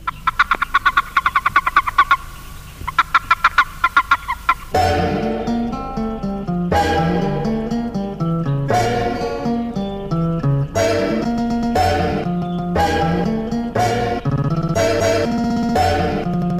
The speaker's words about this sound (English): Bufo boreas, a species that has no mating call but still utters a warning chirp if seized by another male.